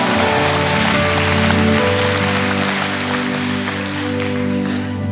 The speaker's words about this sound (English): Clap for that man on the third row.